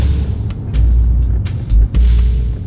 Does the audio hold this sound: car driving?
yes